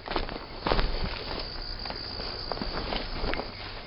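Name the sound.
footsteps walking outdoors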